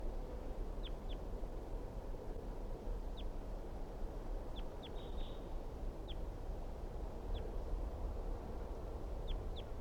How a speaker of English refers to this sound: So recording, this is the wild bird.